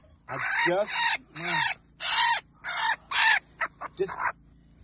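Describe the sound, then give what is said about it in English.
A protective mother hen guarding her newly hatched chick and remaining eggs clucks and squawks agitatedly in a rapid series of harsh, loud calls, ending with a few short clipped clucks. “Boy, she's strong and she's protective.”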